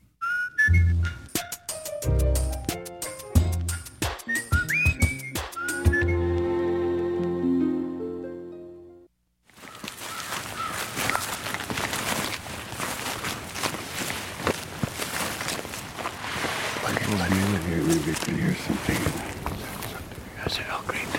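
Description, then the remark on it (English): An elk bugle imitating an elk's call, a device like a vacuum hose with a mouthpiece at one end, painted in green and yellow camo: a run of shrill, rising whistled squeals and grunting harmonic tones lasting several seconds, followed by a steady wash of broad, rushing noise. “That's an elk bugle.”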